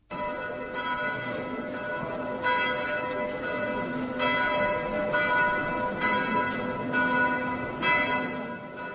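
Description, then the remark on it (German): Church bells peal continuously, with repeated strikes every couple of seconds over a dense, sustained ringing hum, ringing at 6 pm on a Friday to open the Night of Churches across the Czech Republic. The sound is loud and full, with no voices. “Glockengeläut eröffnet am Freitag um 18 Uhr offiziell die Nacht der Kirchen im ganzen Land.”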